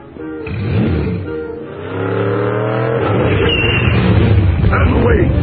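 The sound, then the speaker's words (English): A modified Chevrolet race car with a big 24 on the side revs its engine loudly, its pitch climbing in a couple of surging pushes before settling into a steady roar, with voices mixed in underneath. “It's a modified Chevrolet with a big 24 on the side.”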